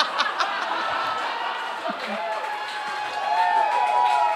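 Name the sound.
audience clapping and cheering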